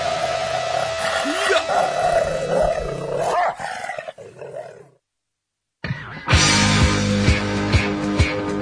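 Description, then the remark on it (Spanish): A dog growls and snarls roughly and loudly for several seconds. After a brief silence, a louder burst of sound follows. “Un perro aburrido que muerde la pierna del que va último.”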